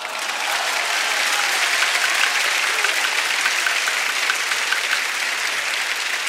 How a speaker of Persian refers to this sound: شما به دست زدن عادت کردین، کیف هم میکنین، التماس دعا.